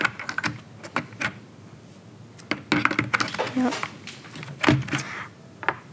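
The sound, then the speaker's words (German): Film being loaded into a camera: the camera's film cap is opened, the film is taken out of its plastic canister and laid into the camera, with a series of sharp plastic clicks, snaps and rattles in irregular bursts, brief handling scrapes between them and a short spoken word. “Die Kappe mache ich jetzt mal auf, tue den Film raus, lege den Film in die Kamera rein.”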